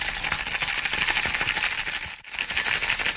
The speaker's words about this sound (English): Okay, so I've shaken it up over ice. I'm just going to strain it into the glass now. My cocktail shaker has an inbuilt strain.